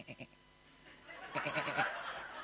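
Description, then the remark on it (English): A sheep bleats, two short quick calls followed by a longer, quavering bleat that rises in strength, with no talking. “What does the sheep say? Ba, ba.”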